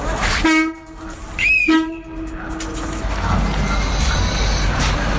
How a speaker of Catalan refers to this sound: A aquesta hora pugem al tren.